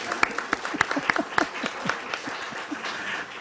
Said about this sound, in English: Let's give Sarah applause.